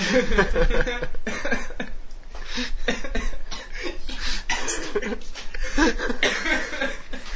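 A run of harsh, bursty coughs repeats over several seconds, mixed with breathy, laugh-like sounds and little clear speech.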